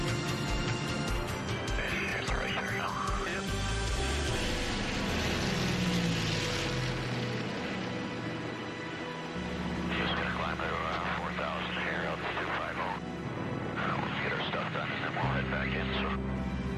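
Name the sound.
propeller airplane engines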